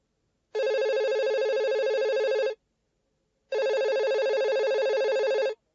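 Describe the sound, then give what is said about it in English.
A telephone rings twice in a travel agency office, each ring a steady two-second electronic tone with a short pause between, loud with no voices. “Could you please answer the phone?”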